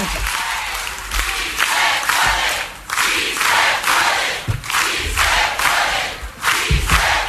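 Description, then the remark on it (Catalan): A large crowd applauds loudly while chanting the slogan "Sí se puede" together in rhythmic bursts, interrupting a woman's political speech, the cheering and clapping swelling and falling in waves with no one speaking over it. “Si no la deixen acabar, i ara ella s'assuma els aplaudiments, també els Si se puede, reprèn.”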